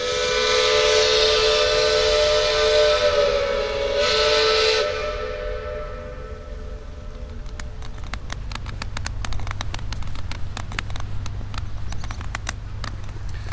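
A loud, steady steam whistle of a Weiße Flotte paddle steamer departing on the Elbe, as the weather clears after rain, blows for about five seconds with a rich harmonic tone and a hissy edge, then fades into rhythmic mechanical chugging and splashing of paddle wheels.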